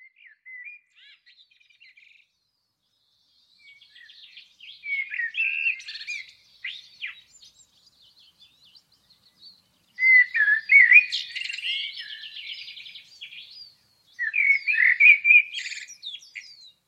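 A blackbird sings alone in a green city neighbourhood in clear, varied phrases of fluting whistles and chirps, separated by short pauses, moderately loud, with no talking.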